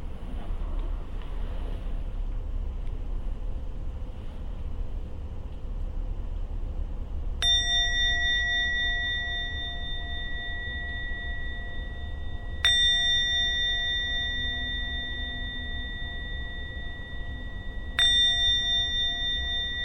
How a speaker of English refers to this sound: going to ring the bell 3 times, and then we end the meditation for tonight.